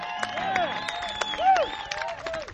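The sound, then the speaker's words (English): An audience applauds a saxophone player in scattered, irregular claps while live band music plays over it, with sustained tones and swooping, bending notes filling the foreground. “a nice round of applause.”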